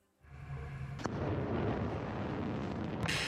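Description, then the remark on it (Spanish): An anti-ship missile launch, a test by Russia in the waters of the Sea of Japan, erupts with a sudden loud blast, then a sustained, powerful roaring rush of rocket exhaust that holds steady and intensifies with a sharp crackling surge near the end. “En forma de misiles antibuque, que suenan así, y que el Kremlin ha probado hoy en aguas del mar de Japón, exhibe músculo Putin en un ensayo más para fortalecer a su ejército.”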